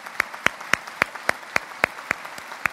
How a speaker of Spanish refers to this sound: Así que un aplauso de nueva cuenta.